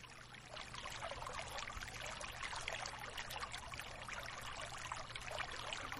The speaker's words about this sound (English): Just listen to the water.